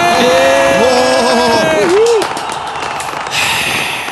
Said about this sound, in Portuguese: Barulhos de palmas e ou fogos de artifício.